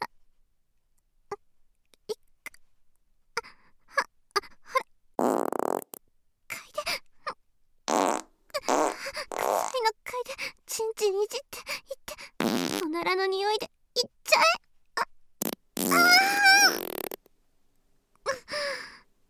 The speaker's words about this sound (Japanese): 今からたくさんガス出ちゃうからね。